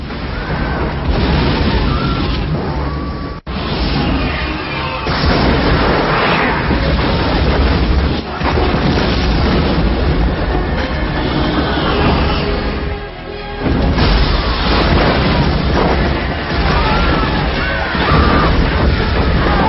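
Meteor impacts and destruction from the film Armageddon, small meteors causing terrible destruction: a dense, continuous roar of explosions, crashing debris and rumbling booms, loud throughout, with a few brief dips before the chaos surges again.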